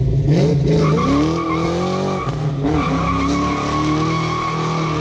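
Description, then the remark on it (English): A loud car engine roars through an intentionally loud, rumbling exhaust system while tires skid and squeal in sliding, pitch-bending tones, a continuous burst of noise lasting several seconds with no talking. “So what's the appeal of an intentionally loud exhaust system?”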